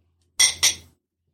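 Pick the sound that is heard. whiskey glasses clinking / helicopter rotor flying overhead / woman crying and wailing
whiskey glasses clinking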